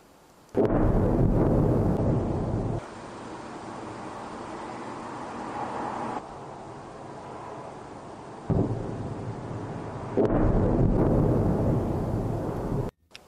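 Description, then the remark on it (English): A heavy explosion from a ballistic missile striking Kyiv, Ukraine, erupts suddenly and leaves a long, roaring rumble, then a second loud blast hits about ten seconds in before the sound cuts off abruptly. No one speaks. “Now, I showed you guys last night this video over inside of Ukraine, particularly over in Kyiv, of a ballistic missile slamming into Kyiv.”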